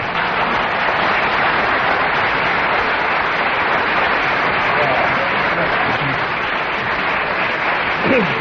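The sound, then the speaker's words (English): An audience breaks into spontaneous applause because Kenneth Williams kept talking for 1.5 minutes on the subject, a dense, steady wash of many hands clapping at an even volume for the whole stretch, without letting up or fading. “Well, that round of applause which came spontaneously from the audience was because Kenneth Williams kept going for 1.5 minutes on the subject.”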